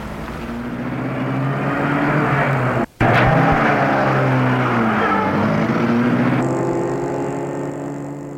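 A car engine drones steadily as the vehicle drives through the deserted streets of Paris and out of the city, its pitch shifting slightly, fairly loud, with a brief cut in the sound partway through and no voices.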